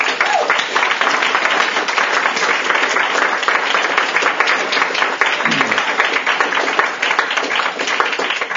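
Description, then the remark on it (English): A crowd bursts into sustained applause for midshipmen from the Naval Academy, a dense, steady wash of many hands clapping at an even loudness throughout, with no one speaking over it. “I think we owe them a round of applause.”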